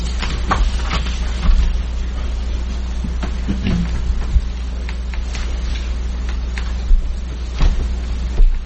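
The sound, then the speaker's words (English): A car pulls up outside, its engine rumbling steadily, a low, constant drone with scattered clicks and a few soft thumps, and no one speaking. “Another car just came up, too.”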